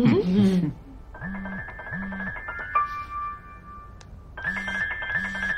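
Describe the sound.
A mobile phone rings with an incoming call in a repeating electronic pattern, stopping briefly and then starting again, after a short bit of speech at the start; the call is declined.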